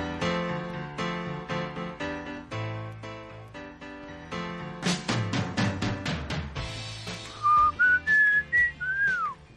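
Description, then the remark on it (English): A bright, rhythmic music bed plays, then near the end a person whistles a short, clear tune of a few rising and falling notes, fairly loud. “That was air whistle.”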